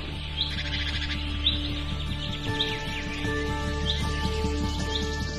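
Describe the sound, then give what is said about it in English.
Birds chirp in short, repeated bursts in a quiet cemetery against a steady low background hum, the calls spaced every second or so, with no voices present. “Tall trees, dense shrubs, and meadows make cemeteries ideal bird habitats.”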